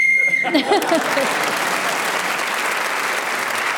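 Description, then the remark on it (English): A single short, steady whistle blast sounds at the start, blown to end a timed round of a game, then an audience breaks into loud, sustained applause that carries on to the end. “Speaking as the whistle, well done, you get the points.”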